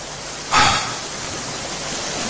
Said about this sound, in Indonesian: Sayup terdengar suara sungai yang mengalir.